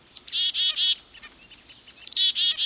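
A mixed flock of songbirds calls while foraging, with bright, high-pitched twittering notes in two quick bursts and chirps scattered between them. No voices.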